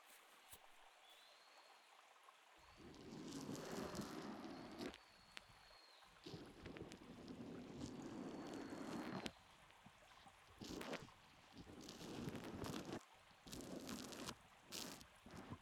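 Soft wiping of foam off an ear: continuous rubbing and swishing with faint fizzy, wet crackles, swelling and easing in uneven strokes, with no talking.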